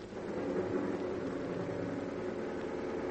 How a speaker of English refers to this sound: Two men are in a speeding car.